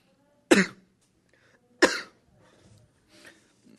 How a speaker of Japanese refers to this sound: つなげよ。相方が咳込んでるときはつないでくれよ。